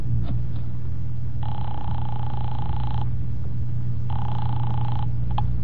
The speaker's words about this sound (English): I drove down to the document research laboratory on Vanderbilt and got such a shock that I grabbed the office phone and dialed Wolf at once.